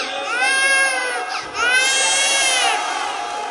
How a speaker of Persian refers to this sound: یعنی شما از این بچه بی‌معرفت ترید؟ یعنی این بچه از شما بیشتر باید گریه کنه؟